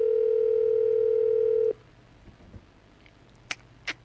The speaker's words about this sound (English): Let's see if they answer the phone. I'm not going to say who I'm calling because they're probably listening because they probably don't want to answer the phone.